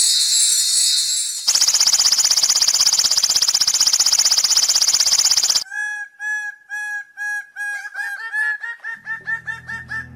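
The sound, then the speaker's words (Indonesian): A bird-of-paradise (cendrawasih) calls, starting with a harsh, buzzing rattle, then breaking into a loud run of repeated, ringing notes in a quick, steady rhythm, with no voices. “Atas kekuasaan Tuhan, seketika itu Wowoy berubah menjadi burung cendrawasih yang indah.”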